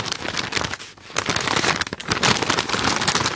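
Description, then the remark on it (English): Red, green and sparkly Christmas wrapping paper crinkles and crackles in a little bedroom, a dense, continuous rustle with brief dips and bursts of louder crumpling, and no voices. “So my method was to keep my eyes tightly closed and inch 1 foot down the bed very, very slowly until I heard that noise, that lovely, crinkly, crackly noise in a little bedroom.”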